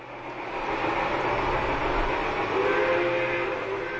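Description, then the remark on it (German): A steam locomotive in Cuba rumbles through sugarcane fields with a steady, loud mechanical roar, and thin high squealing tones rise in toward the end. No voices are heard. “Werden die Dampfloks, die seit fast 200 Jahren durch Zuckerrohrfelder fahren, zur Tourismusattraktion?”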